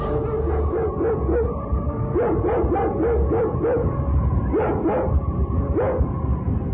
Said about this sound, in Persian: در همین هنگام بود که ناگهان سگی به ما حمله نمود.